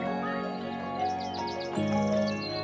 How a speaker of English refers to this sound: On the surface, birdsong is simple. It's a pleasing wash of sound that just happens in the background. But if you stop and listen, you might find a deeper meaning.